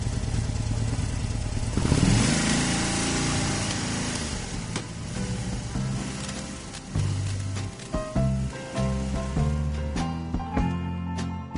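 A motorcycle engine runs steadily and fairly loud, its rough droning rumble continuing throughout with slight shifts in pitch and intensity, no voices present.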